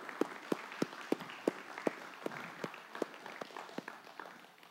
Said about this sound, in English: Thank you for showing us the caring love and grace of our Heavenly Father. We do not take that for granted. So let's give them a round of applause, guys. Woo!